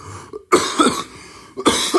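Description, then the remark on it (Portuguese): Two harsh coughs about a second apart, each a sudden loud burst that rasps and fades, with a short quiet pause between them and no talking. “Portanto, percebo que tenham raiva da minha tosse.”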